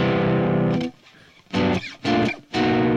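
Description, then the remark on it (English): Loud, distorted electric guitar chords ring out in separate bursts, each cutting off into a brief near-silence before the next crunchy strum. No one speaks. “This is kind of a nice level of distortion, don't you think?”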